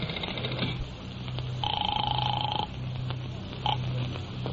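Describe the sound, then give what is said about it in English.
A phone is dialed with a run of quick clicks to call a hotel, then a steady electronic ring sounds for about a second, followed by the brief start of another ring. No one speaks. “I'll phone the hotel.”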